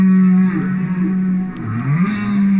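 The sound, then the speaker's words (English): A recording of humpback whale song, played by biologist Roger Payne at his home in Vermont: a sustained low, droning moan with harmonic overtones, bending into slow downward and upward pitch swoops, loud and continuous with no voices. “He's at home in landlocked Vermont, listening to the songs of his beloved humpback whales in a wood-paneled living room.”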